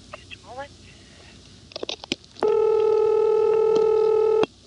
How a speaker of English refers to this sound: And the third example is Montpelier, which has had both its low tone, including the busy reorder tone and dial tone, updated to a Lorraine tone, and also the ring.